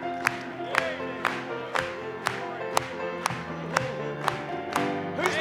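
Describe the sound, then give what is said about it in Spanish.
An audience claps together in praise of the Lord in a steady rhythm, about two sharp claps per second, over a sustained backdrop of music and voices singing along. “Vamos a aplaudirle.”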